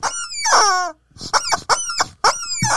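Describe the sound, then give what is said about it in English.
A rubber chicken toy lets out a long, wavering, high-pitched squawk, followed by four or five shorter, strained squeaks in quick, uneven bursts, loud and with no talking. “It's a chicken, everyone. It's a rubber chicken.”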